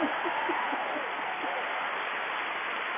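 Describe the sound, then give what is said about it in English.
An audience claps steadily, a dense, even patter of many hands that holds at a moderate level for about three seconds, with faint voices mixed in underneath. “Let me clap for my partner.”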